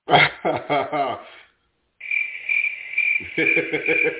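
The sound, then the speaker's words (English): A crickets-chirping sound effect: after a brief pause, a steady high-pitched trill plays fairly loud, joined by lower rhythmic croaking pulses, with no one talking. “He deserves to get some crickets.”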